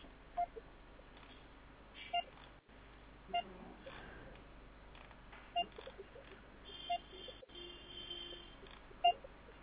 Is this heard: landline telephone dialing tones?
yes